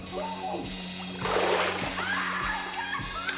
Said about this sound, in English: He grabs her head and dunks it in the water.